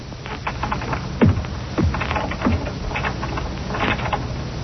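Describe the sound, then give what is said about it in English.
Metallic clicking and scraping of keys, including the big key, fumbling in a garage door lock, with a few sharper clacks spaced irregularly over a quiet background; no one speaks. “Oh, darling, toss me the keys to the garage, will you, so I can open the doors for you?”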